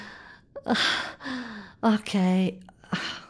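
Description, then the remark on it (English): A run of gasping and gagging sounds: sharp, breathy intakes of air broken by strained, throaty voiced catches. The bursts are fairly loud and irregular, with no speech. “Oh, look at you, gagging and gasping like a little girl.”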